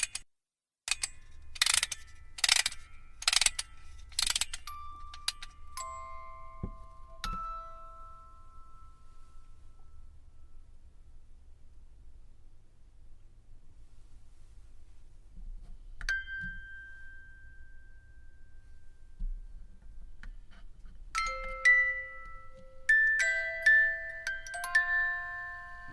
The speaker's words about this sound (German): so heißt ihr Stück, beginnt mit einer Spieluhrmelodie und einem Text von Andre Stanley, den er auf Basis früherer Schlafradiosendungen geschrieben hatte.